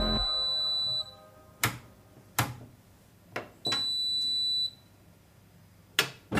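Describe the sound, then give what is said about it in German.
A washing machine being used to do laundry gives two sustained, high-pitched electronic beeps about a second each, with several sharp clunks and thuds in between and after, like its door and controls being handled. “So, ihr hört es schon, wir gehen in dieser Folge gemeinsam Wäsche waschen.”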